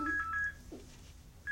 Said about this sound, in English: You're ringing.